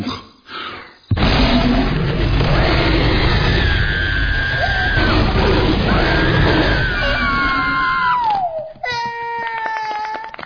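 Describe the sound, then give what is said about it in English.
A big, loud monster roar, given on command in a scare simulator, bursts out after a brief pause and holds for about nine seconds, rough and sustained, with a wavering high tone sliding downward near the end before a shrill ringing finish. “Now, give us a big, loud roar.”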